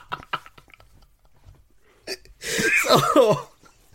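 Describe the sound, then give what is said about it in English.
After a few faint clicks and a short sharp breath, someone lets out a loud, rough cough that lasts about a second, with a strained, voiced rasp before it fades. “Do you want to have a little cough there”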